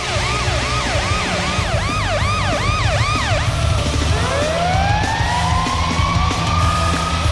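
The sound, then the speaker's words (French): Police sirens blare loudly as a hockey goal celebration for the Washington Capitals, starting with a fast repeating yelp that shifts into a long rising wail, over a dense, roaring background of noise. “Les sirènes de police. Ah oui, ça met de l'ambiance.”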